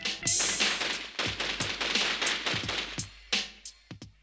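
A rapid volley of gunshots from police officers lined up beside their patrol car doors, firing as they advance like a firing squad, many sharp loud cracks in quick, irregular succession, with a few final isolated shots trailing off at the end.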